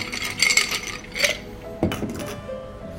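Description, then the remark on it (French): Ice cubes clink and rattle into a mixing glass as a barman prepares a Vesper cocktail, a few bright knocks in quick succession followed by a softer settling clatter, with no talking. “Avec des glaçons.”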